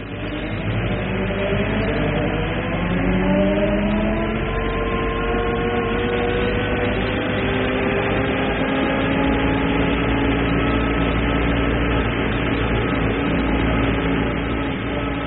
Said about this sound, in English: Farnham House crashed into the street behind us. It's the vibration of a truck, I suppose.